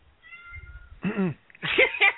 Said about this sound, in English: And I hear your cat. Oh yes. You hear my pussy. And that one, too. Hi, Candy. They said, hello, Candy.